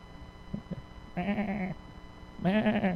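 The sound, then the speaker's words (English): Two wavering sheep bleats, each lasting about half a second, against a quiet background, with a couple of soft thumps before the first call. “What is the bleating of the sheep that I hear?”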